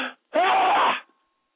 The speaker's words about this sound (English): Uh oh, Flippy's got to sneeze. Oh, I'm gonna record this. Ready?